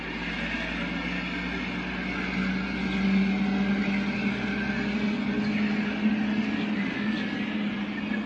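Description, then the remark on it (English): A truck engine rumbles steadily in the background, swelling slightly in the middle as it passes before settling back into a constant low drone. No one speaks. “And I still can't stand trucks.”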